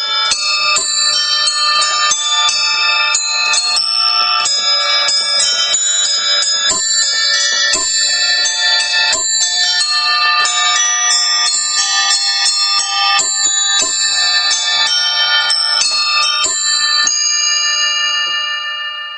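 Bright, ringing bells of a homemade carillon, which its maker calls a Russian Vyatka "kolokolina", played continuously by a musician in a wheelchair, overlapping tones chiming in a lively melodic pattern, loud with no voices, sustaining throughout before fading at the end.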